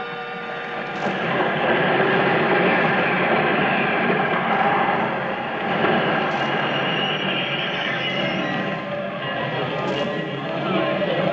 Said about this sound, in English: The train just stopped.